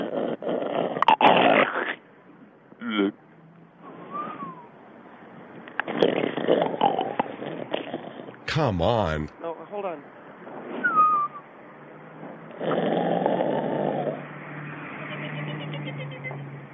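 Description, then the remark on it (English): A six-month-old infant snoring on a muffled tape recording, with rough, rasping breaths repeating in uneven bursts. A couple of voices speak briefly over it. “All right, we're listening to the tape of a baby snoring.”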